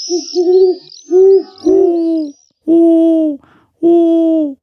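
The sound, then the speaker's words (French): A person whistles to imitate the cry of an owl in order to attract birds. The call has five loud hooting notes: three in quick succession, then two longer, steadier tones separated by pauses, with no talking. “Eh bien, je froue, du verbe frouer, qui signifie émettre un certain sifflement par lequel on imite le cri de la chouette pour attirer des oiseaux.”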